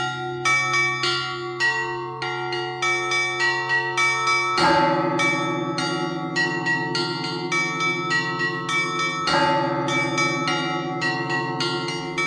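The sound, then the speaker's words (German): Many bells of the Russian Orthodox monastery Uusi Valamo peal together in a dense, continuous ringing, rung by the duty monk with ropes, pedals, hands and feet; rapid small bells chime over deep bells that strike in heavy accents every few seconds. No voices, just the loud, clear bell ensemble. “Und in der Früh und überhaupt dreimal pro Tag wird man durch Glocken geweckt.”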